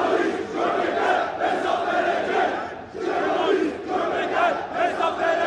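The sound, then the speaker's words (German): Hundreds of protesters gathered outside the editorial offices of the satire magazine Leman in Istanbul shout and chant together in a loud, continuous roar of many voices, with surging waves and a brief dip near the middle before the shouting swells again. “Hunderte Menschen haben sich vor den Redaktionsräumen des Satire-Magazins Leman versammelt.”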